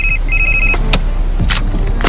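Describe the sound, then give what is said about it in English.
A telephone rings with a steady, high-pitched electronic tone in two quick bursts, then stops abruptly, followed by rustling and clattering against a low background rumble. “You cannot talk on the phone.”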